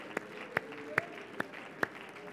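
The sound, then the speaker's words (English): A church audience on Easter Sunday morning claps hands in a steady rhythm, shouting to the Lord: five sharp, evenly spaced claps stand out above a continuous wash of crowd voices shouting and calling out underneath. “Somebody clap your hands and just shout for a moment to the Lord.”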